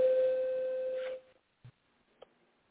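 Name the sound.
phone ringing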